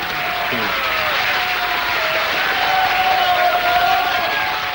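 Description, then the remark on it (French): A large crowd applauds and cheers without pause in a scene from the 1956 film Les Week-ends de Néron, a dense, loud roar of clapping with shouting voices rising through it for the whole stretch. “Crois-tu que s'il avait gagné une bataille, il aurait recueilli autant d'acclamations?”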